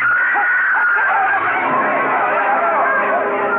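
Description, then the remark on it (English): A woman screams over a dense, continuous wedding crowd hubbub on the street, with many voices chattering and clamoring together at a steady, fairly loud level throughout. “Yu Lang and the groom stiffened and crumpled at the screaming Nanhua's feet.”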